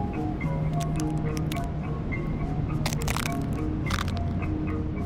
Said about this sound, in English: I stomp on dried up crab shells because I like this satisfying sound they make, and it reminds me a little bit of heartbreak.